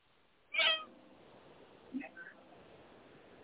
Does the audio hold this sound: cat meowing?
yes